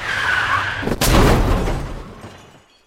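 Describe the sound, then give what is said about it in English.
A car's tires squeal in a long, high skid for about a second, then a loud crunching crash bursts out and rumbles away into silence. “While Seamus superglues his car together, let me introduce you to a new friend.”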